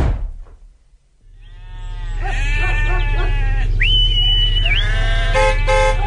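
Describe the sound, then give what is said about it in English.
A flock of sheep bleating on a road, many overlapping wavering calls rising after a brief quiet start, over a steady low rumble like an idling engine. “Excuse me, do you think you could park your sheep at the side of the road there?”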